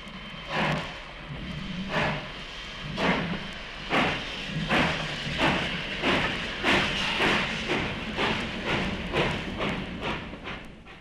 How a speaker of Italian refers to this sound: Ascolta i rumori dei mezzi che all'uomo facilitano gli spostamenti. Sono un po' come una carta d'identità. Difficile confonderli. Motocicletta. Automobile. Treno.